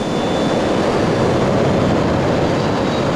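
vehicle, jet airliner taking off

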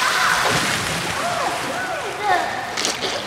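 nature, water splashing

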